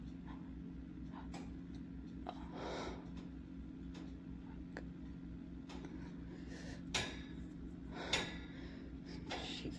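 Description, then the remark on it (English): A heating system turning on hums steadily on a cold day, a low droning tone running throughout, with scattered faint clicks and ticks and a couple of brief louder bursts near the end. “Heat's turning on.”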